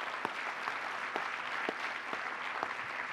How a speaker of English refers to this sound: So everybody would join me in giving Tom a round of applause.